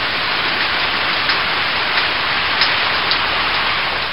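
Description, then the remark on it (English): Steady, dense rain falls outdoors on a cool, wet autumn day. It hisses evenly throughout as a broad wash, with a few faint drops tapping slightly louder now and then. No voices. “It is a cool, wet, rainy day outside.”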